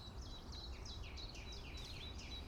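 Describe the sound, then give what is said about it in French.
Two thrushes, one singing and one calling; the song is a steady run of short, high, repeated phrases, soft over a constant low rumble of outdoor background noise. “Grive.”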